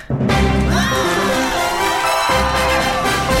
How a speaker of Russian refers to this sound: Надо и... было сейчас аплодисменты, наверное